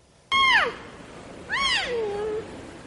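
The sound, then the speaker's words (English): Two high, squeaky cries from a rare pair of twin panda cubs, just over 100 days old, at a zoo in South Korea, the first short and sliding downward, the second rising then trailing off into a longer whine, heard alone without talking. “Finally tonight, panda bear lovers in South Korea are seeing and hearing double.”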